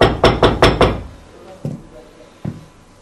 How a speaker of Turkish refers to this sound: Allah Resulü kapıyı çalsa evinizi.